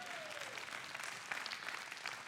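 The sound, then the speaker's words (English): An audience bursts into steady applause for the speaker's 44-year marriage, a dense, even patter of many hands clapping at once that holds for a couple of seconds without anyone speaking over it. “Somebody needs to applaud that the old guy got it right.”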